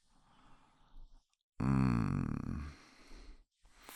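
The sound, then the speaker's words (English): A person lets out one loud, rough, guttural bark in imitation of a dog, preceded by quieter breathy sounds and followed by a short gasp. “That barking is never gonna get old. Come on, keep barking.”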